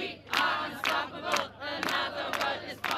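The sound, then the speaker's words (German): A large crowd at an Extinction Rebellion climate protest in Berlin on 7 October 2019 chants "Wir sind nicht zu stoppen" in rhythmic unison, loud voices rising and falling in repeated bursts roughly every half second, with a steady low hum underneath. “Das war der Claim heute bei den Demos der Klimaschutzbewegung Extinction Rebellion.”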